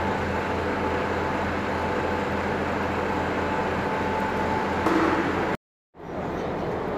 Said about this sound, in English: Join me live on the Yorks train station. 158 has just come from Hull. Seeing Harrogate. Brickhouse has just left. 120 Stirling's just gone. And my time here. Trains have just gone to Manchester, Victoria.